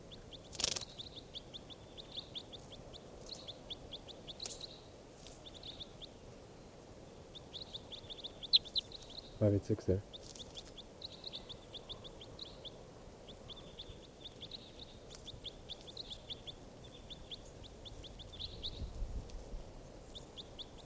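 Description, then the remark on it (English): Repeated high, thin bird chirps in quick bursts from bird number 586 being recorded run through the whole stretch over a low rumbling background, with a brief spoken word partway through. “Stop. Recording bird 586.”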